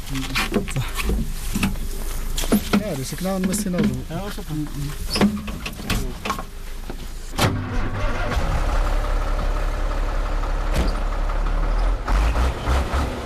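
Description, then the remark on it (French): Voices talk briefly, then a heavy truck engine turns over and settles into a loud, steady low rumble as the truck, inspected with nothing found, is about to pull away. “Rien à signaler, le camion peut repartir.”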